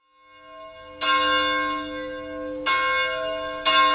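Church bells ring at 7:30 a.m. in three clear, loud strikes with rich overtones, each one sustained and overlapping the fading hum of the last. No one speaks.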